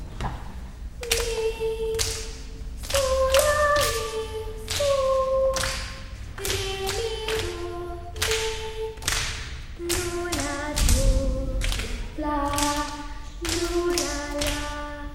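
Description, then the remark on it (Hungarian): Several people clap together in a steady rhythmic pattern during a singing rhythm exercise, sharp claps repeating over a series of short pitched notes that rise and fall with the beat. “Többiek tapsolnak bátran.”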